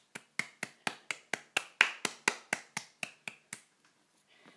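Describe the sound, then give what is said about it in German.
A brief burst of applause: about fourteen sharp, crisp claps in a steady, even rhythm, slightly louder in the middle, then stopping abruptly. No voices accompany it. “Herzlichen Applaus.”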